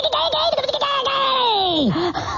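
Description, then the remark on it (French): A comic pterodactyl cry, loud: a high, warbling screech that flutters rapidly at first, then stretches into one long wavering call that swoops downward before a brief final squawk. “Vous écoutez Radio Tis Oiseaux, cuicui, les petits chiens woufou, les petites abeilles bis bis et les petits rodactyles.”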